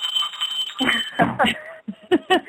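A bright, sustained jingle bell rings out for Christmas with a steady high shimmer, rung for a caller on a call-in show, while voices cheer and laugh over it in short bursts.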